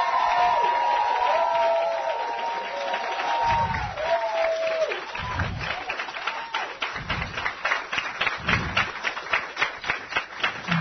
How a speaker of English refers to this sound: Before we go any further, can you all give yourselves a big round of applause?